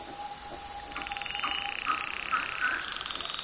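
A night chorus of frogs in the rainforest of the Marotandrano Special Reserve, Madagascar: a steady high trill runs throughout while short, bright chirping calls repeat every half second or so, over a constant hiss of insects, moderately loud.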